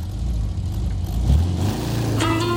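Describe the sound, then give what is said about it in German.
An old VW bus engine drones steadily while driving, its low rumble shifting pitch as it revs and changes gear, with a brief higher whine near the end. “Gerade in der Ferienzeit rollen sie wieder in alle Himmelsrichtungen. Die hübschen alten VW-Busse.”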